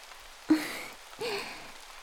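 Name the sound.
rain falling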